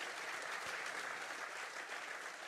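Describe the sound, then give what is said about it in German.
A crowd applauds Heiko Scholz steadily, a dense wash of many hands clapping at an even level throughout, with no voices standing out. “Da kann man ruhig mal Applaus geben.”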